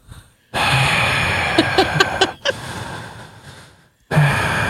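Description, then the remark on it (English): A voice makes heavy, raspy breathing through a crackly, muffled McDonald's drive-thru speaker, with two long noisy inhales and exhales separated by brief silences, plus a few clicks and catches along the way. “I can just hear this breathing.”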